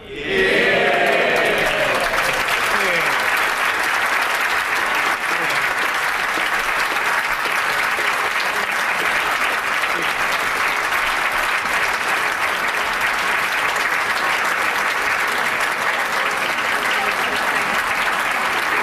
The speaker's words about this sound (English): The Speaker of the House, John Bercow, his family getting a lot of applause there.